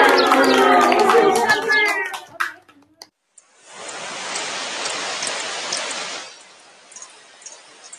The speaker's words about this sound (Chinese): 哎呀，突然之间落咁大雨嘅